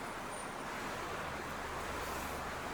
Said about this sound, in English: I mean, the most pressing one is this storm. It's been raining and pouring all night long.